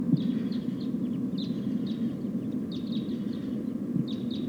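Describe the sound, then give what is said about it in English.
A flock of about five or six type 2 crossbills calls while flying over, sharp repeated kip notes in loose bursts of several birds, heard above a steady low rumble of background noise. “It sounds like a flock of type 2 crossbills is flying over.”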